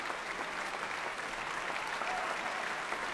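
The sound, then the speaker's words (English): A dense, steady wash of applause from a large audience for five players of the West-Eastern Divan Orchestra after a Beethoven piece, many hands clapping continuously at an even, sustained level for the whole stretch without letting up, the roar of an enthusiastic ovation in a concert hall. “Rousing ovation here in the hall.”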